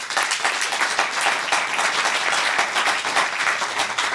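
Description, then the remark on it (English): A crowd at the A Nation Engaged event at the Hoover Library in West Branch, Iowa, applauds steadily in a clapping poll on whether the office of the presidency is too powerful, many hands clapping in a dense, even wash of sound at a fairly loud level for several seconds without any voices. “Clap if you think the office of the presidency is too powerful.”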